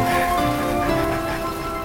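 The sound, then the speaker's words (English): Steady rain falls under a cloudy sky in a continuous, even hiss, with a faint sustained tonal hum running underneath. No one speaks. “It's cloudy and raining.”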